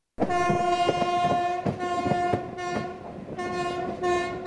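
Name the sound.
passenger train running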